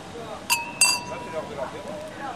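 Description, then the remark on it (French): Two bright glass clinks in quick succession, ringing briefly, as glasses of blond beer touch in a toast outside the Théâtre de la Parcheminerie in Rennes, with faint voices murmuring in the background. “On trinque ? On trinque.”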